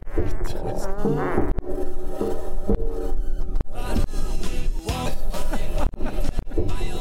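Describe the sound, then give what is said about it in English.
NASA's Perseverance rover driving over the surface of Mars: a steady, harsh mechanical buzz with grinding, scraping and rattling clicks, loud and continuous for the whole stretch, with no voices. “And then here is the sound of Perseverance driving on the surface of Mars.”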